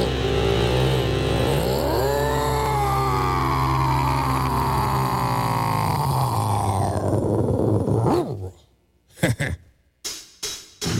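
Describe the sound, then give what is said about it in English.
A voice gives a long, growling monster-style roar with sliding, gravelly tones for several seconds, then breaks off into a few short bursts and pauses. “But I am a monster, and a monster goes roar.”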